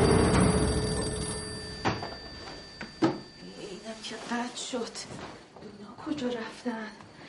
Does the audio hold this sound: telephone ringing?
yes